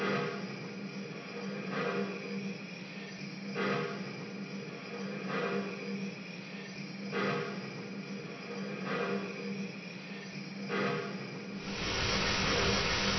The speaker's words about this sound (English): Plenty of steam. She's in good shape.